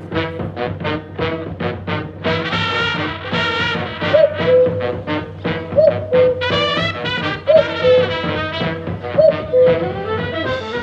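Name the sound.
common cuckoo calling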